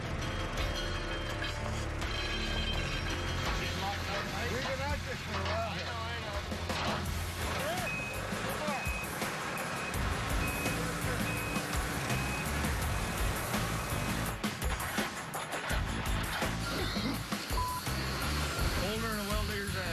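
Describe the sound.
A fuel truck, broken down in bitter cold, has its engine rumbling steadily while its reversing alarm beeps repeatedly, with muffled voices and mechanical clatter mixed in.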